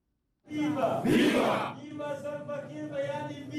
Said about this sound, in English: Viva! SPLM in opposition and SPLM officials applaud their respective movements minutes before President Kiir swears in Taban Deng Gai as the nation's first vice president at a ceremony in the presidential palace known as J1.